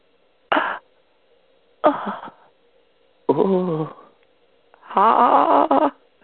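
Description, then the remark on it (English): A voice imitates four breathy gasping moans, fairly loud, separated by short silences; the first two are quick airy gasps, the last two longer and more voiced. “Whatever their version of the gasp moan is, you know what?”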